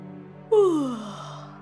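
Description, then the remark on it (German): A single drawn-out yawn from a tired voice, starting abruptly and sliding downward in pitch as it fades into a breathy exhale, with no talking around it. “muss er schmunzeln und gähnt ebenfalls.”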